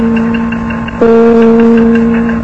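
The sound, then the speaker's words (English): A WCBS radio time signal of four tones marking 7 o'clock: a steady low electronic tone, then a brighter, higher tone joins and the sound grows louder, the final loudest tone marking the exact time. No voices. “Four tones will follow. The final loudest one marks the exact time.”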